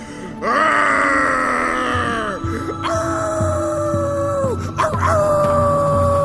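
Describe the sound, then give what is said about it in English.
A person howls at the sunset in long, loud, wavering cries, three drawn-out howls in a row, over a steady low rhythmic thumping. “Ether, … is howling at the sunset.”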